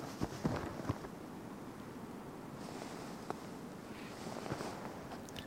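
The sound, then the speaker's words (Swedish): Wind rustles softly through spruce treetops on open ground in Skuleskogen on the High Coast, a faint, steady rushing hiss that stays constant throughout, with a few small clicks and taps scattered on top and no voices. “Och nu börjar det faktiskt blåsa lite här på den öppna marken.”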